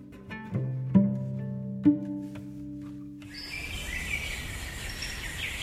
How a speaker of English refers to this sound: The forest doesn't really wake up till sunset. Then frogs call for mates, owls hoot, leaves rustle softly as something in the dark eats a fruit or stalks its prey.